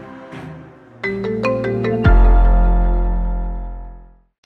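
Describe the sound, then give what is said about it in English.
A phone's melodic ringtone plays a quick run of bright, repeated electronic notes, then swells into a deep, sustained tone that fades out, a call to Burger King not yet answered. It is loud, with no one answering or speaking. “Can't imagine that they haven't answered their phone this quickly.”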